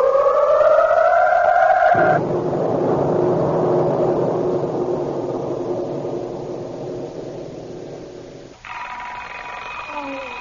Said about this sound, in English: How many millions of workaday lives begin each day with that most unwelcome intruder, the alarm clock? This particular clock, ringing at the bedside of Fred and Betty Folger, is especially unwelcome.